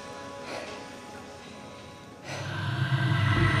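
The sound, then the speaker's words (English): Heavy, deep breathing of a woman leaning against shelving in a storeroom after dragging in two full bin bags, a slow breathy exhale swelling and fading, followed by a louder, steady rushing wash that builds toward the end. “frowns as she drops the bags on the floor and leans against some shelving, breathing deeply.”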